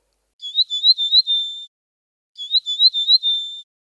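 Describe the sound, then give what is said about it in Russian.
A canary sings a phrase imitating the red-billed bunting (Emberiza caesia) twice, each a quick run of high, rising chirps ending in a drawn-out bright trill, with a short silence between the two phrases. “Третья овсянка включена в песню совсем недавно. Она называется «Овсянка красноклювая».”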